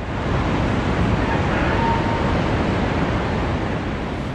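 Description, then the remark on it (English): A dense, continuous roar of rushing floodwater fills the whole stretch, loud and steady without pause, a powerful torrent cascading downstream after a dam across the Dnipro River was destroyed in the Kherson region of southern Ukraine, with no voices. “Torrents of water are cascading downstream, and at least 8 different towns and villages have already been submerged by the rising tide.”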